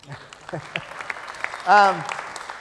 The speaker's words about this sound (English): It's also going to be available in preview for 2013 as well, SharePoint 2013 as well. Now you can applaud.